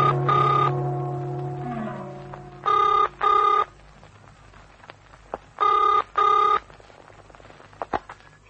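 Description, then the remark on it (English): A telephone bell rings in the classic double-burst pattern, two pairs of bright, buzzing rings separated by a pause, fairly loud, with a brief fading ring at the start and no talking. “I've been trying to get you on the phone for ages.”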